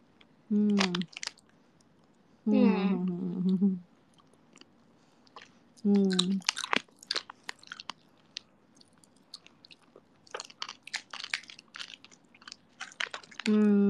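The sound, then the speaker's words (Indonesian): Loud crunching of hard candy being chewed, with irregular sharp cracks throughout, broken up by a few brief voiced sounds between bites. “Kamu kalau makan permen? Ya. Yeah? Di emut atau di kletek di gigit dulu aku suka ngunyah tapi sekarang sih aku lebih suka ini aja biar awet aja permennya ya aku ngelakuin.”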